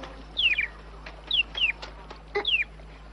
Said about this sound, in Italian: Heidi, lascia in pace quell'uccellino. Quando se la sentirà, volerà da solo.